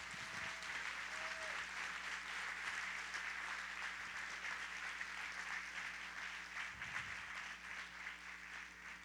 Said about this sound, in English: Let's give Brian a big hand clap.